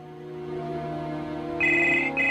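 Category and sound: signal or alarm, telephone ringing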